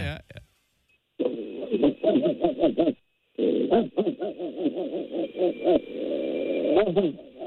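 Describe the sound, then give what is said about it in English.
A person doing a dog impression makes rapid, wavering vocal yelps in two long runs separated by a brief pause, the second run trailing into a drawn-out whine. “I am going to do a dog.”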